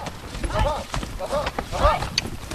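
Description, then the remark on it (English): Horses carrying hunters trot over soft, sandy ground and scrubby oak brush on Spain's central plateau. Their hooves land in muffled, uneven thuds while indistinct voices murmur over the steady plodding. “Horses trot softly across sandy terrain and scrubby oak brush here on Spain's central plateau.”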